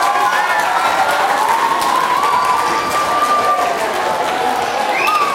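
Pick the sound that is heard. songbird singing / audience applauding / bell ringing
audience applauding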